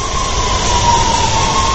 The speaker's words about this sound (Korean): 이제 막 도착한 지하철에서 사람들이 꾸역꾸역 나오고 있습니다. 대부분 아침 출근길을 서두르는 사람들인데요.